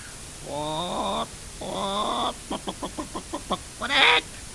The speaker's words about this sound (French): Les poules.